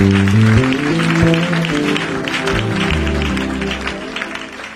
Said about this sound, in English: Can you thank the Lord with a clap offering? Bless the Lord with a clap offering. Oh, do it like somebody who is blessed.